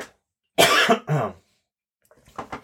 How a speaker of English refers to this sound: You see, that was a real cough, folks. That is how real shit gets here. We even cough on this podcast.